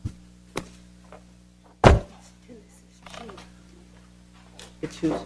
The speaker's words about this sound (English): It's your chair that's making a squeaky noise. Yes, mine.